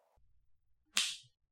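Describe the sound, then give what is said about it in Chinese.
A single sharp whip crack snaps out loud, its bright burst trailing off in a fraction of a second over a quiet, low rumbling background; a man is using the whip on a stray dog. “哈，这是我老公在用鞭子教训野狗呢。”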